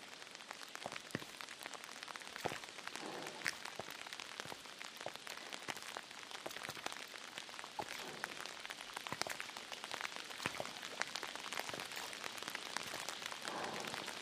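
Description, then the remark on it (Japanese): Steady rain pours down, not letting up and growing a little heavier, a dense hiss of countless drops with sharper individual splats and taps on a hard surface throughout, no voices. “全然止まないね。むしろ少し雨足強くなってる気がする。”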